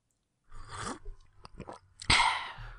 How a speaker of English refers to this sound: Ooh, that went down quick. Mustn't gulp, Mummy.